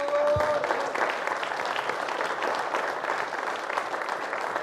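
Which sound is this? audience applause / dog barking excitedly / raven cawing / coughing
audience applause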